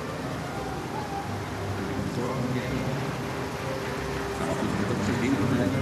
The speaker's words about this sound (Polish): Za nimi polskie pojazdy sił zbrojnych na zachodzie wraz z obsługą wystawione przez Grupę Edukacji Historycznej oraz Muzeum Polskich Sił Zbrojnych Fundacji Niepodległości z Lublina. Grupa składa się z 4 pojazdów i motocykla.